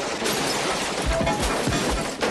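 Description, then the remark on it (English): Bullets strike a helicopter in a rapid, dense barrage of sharp impacts, followed by heavy low thuds and crunching as it crashes to the jungle floor, loud throughout with no voices. “Bullets hit the chopper and it crashes to the jungle floor.”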